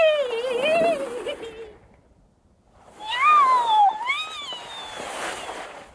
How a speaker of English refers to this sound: A cat.